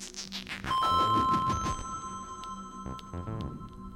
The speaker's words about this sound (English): and then, flooding him with relief, pealing into his terror, swinging his control back to him, the bell rang to end the class and the school day.